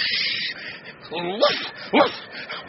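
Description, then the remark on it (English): A voice imitates a dog, giving a couple of rising, wavering whimpers followed by a single short, sharp bark over a steady hiss, with no other sounds alongside. “Rover! Rover, quiet!”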